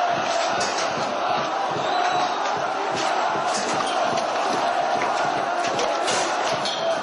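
A large, angry crowd of protesters attacking the diplomatic missions of Denmark and Norway in Syria roars continuously for several seconds, with overlapping shouts and chants rising from a dense, steady wall of voices and no pauses.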